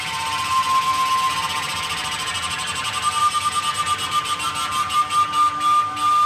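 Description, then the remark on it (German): Airy, whistling tones from a sound installation in Bregenz, made of self-built flutes and pipes of copper tubing lying on the floor, with thick hoses, computers and fans. A dense cluster of sustained high pitches sits over a breathy rush, pulsing faster and faster toward the end in rhythmic swells. “Ein Klingen, Rauschen, Pulsieren, Tönen und Dröhnen, zart, konzentriert, an- und abschwellend.”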